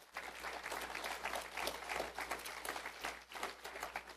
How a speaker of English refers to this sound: So give yourselves a hand clap this morning.